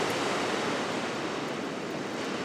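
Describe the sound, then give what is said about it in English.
Pacific Ocean surf at dawn along Westcliff Drive roars in a steady, dense wash of noise, waves breaking continuously on the shore with no single crash standing out and no voices. “The ocean is really wild sometimes, where it comes up over Westcliff Drive, so you can be walking along and have the spray hit you.”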